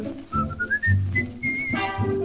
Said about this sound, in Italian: il fischio, voglio fischiettare, state ad ascoltare.